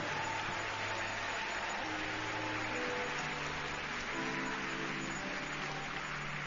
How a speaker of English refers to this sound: Keep clapping. Keep clapping until the last person gets